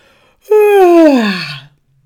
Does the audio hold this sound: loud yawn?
yes